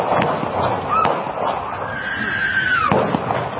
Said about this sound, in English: A quiet fall morning at a local college campus. Then the silence shattered by gunshots.